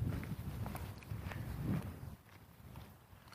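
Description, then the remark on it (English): Boots crunch along outdoors in a steady walking rhythm on a short walk, each footstep a soft scuff against low background rumble, with no one talking. “This is going to be a real short walk.”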